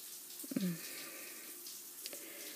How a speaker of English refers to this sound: You're standing with both hands resting on the wall, just letting the water run down your back, over your ass.